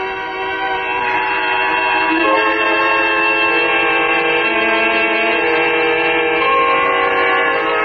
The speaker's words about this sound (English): The whistle. Time to go home. 6 o'clock. I slept right through and then the whistle woke me up. It woke me up.